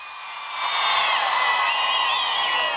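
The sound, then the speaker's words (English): A large crowd of women on Avenue Bolívar in Venezuela roars and cheers when called on, many high-pitched voices swelling quickly and holding a loud, sustained, overlapping shout for a couple of seconds. “Let's hear the roar of the women.”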